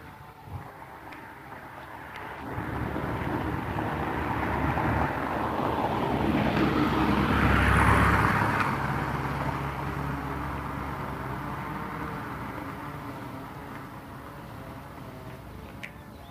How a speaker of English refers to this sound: Landscape crew out, 4th of July. Okay. See this guy with the weed whacker. You probably hear the guy with the weed whacker. And the guy in a riding mower powering it up down the street. Keeping the grounds of the rental properties there.